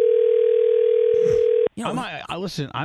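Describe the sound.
A steady telephone dial tone hums at one unchanging pitch for over a second while placing a call, then cuts off abruptly as people start talking.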